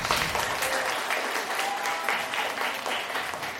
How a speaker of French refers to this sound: On vient d'entendre des applaudissements après la pièce de théâtre